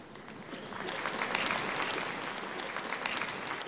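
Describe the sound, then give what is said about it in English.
A modest round of clapping from a small audience, steady and even throughout, with many overlapping hand claps at moderate volume and no voices standing out. “Luca first produced a hat from a rabbit, a bunch of wands from a flower, and a sleeve from a deck of cards, to polite applause”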